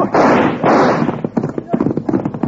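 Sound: gunshot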